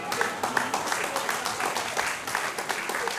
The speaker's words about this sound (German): Sie haben recht, da klatschen jetzt sehr viel weniger.